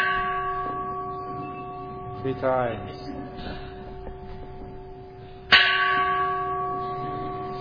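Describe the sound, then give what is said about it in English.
A large gong hums with a sustained, shimmering metallic tone, then is struck loudly once more to announce the start of chanting, the fresh hit blooming and ringing on. A person speaks briefly before the strike. “would you like to ring the gong loudly to announce the start of the chanting?”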